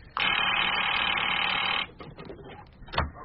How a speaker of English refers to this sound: Oh, there's the phone.